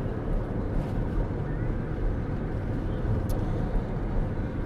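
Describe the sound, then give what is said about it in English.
A steady, low rumble of road traffic under a cloudy sky, cars and buses carrying football fans in red moving together in a continuous drone without distinct pass-bys, loud, with no voices. “Or Leeds playing today, because there are fans in red in cars and buses all around me.”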